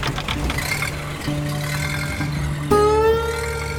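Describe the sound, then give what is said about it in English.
A hand-cranked vintage Packard car engine idles with a steady low rumble and sputter, then revs up sharply near the end with a rising whine as the throttle is adjusted. There is no talking. “Traynor jerked the crank handle up. Billy then adjusted the throttle as Traynor, carrying the hand crank, hurried back to jump into the car.”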